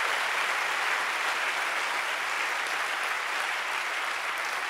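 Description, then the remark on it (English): An audience at a church praise and worship service claps their hands unto God in a dense, steady roar of applause that holds at an even, fairly loud level for the whole stretch, with no voices rising above it. “But I do want to ask for you to clap your hands, all you people, unto God.”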